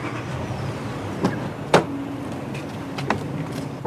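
A pickup truck idles with a steady low engine rumble, broken by a few sharp clunks and thuds like a door shutting and someone climbing in; no one speaks.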